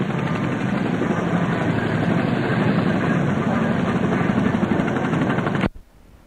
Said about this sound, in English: Firefly coming into land. Firefly carries two badges on either side of the fin. R for HMS Glory and K on the other side for HMAS Sydney,